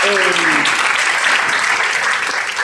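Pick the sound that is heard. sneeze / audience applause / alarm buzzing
audience applause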